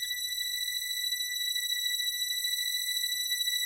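A steady, high-pitched electronic test tone holds one unwavering pitch at constant loudness for nearly four seconds, with a thin buzzy edge and no voices.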